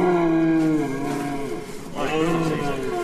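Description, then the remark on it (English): A large antlered stag deer in a barn calls in two long, loud, low bellowing groans, the first drawn out and sliding downward, then a brief lull before a second hoarse bellow rises. No one speaks. “Yeah, he's not like a normal deer you see around this part of the world at all, is he?”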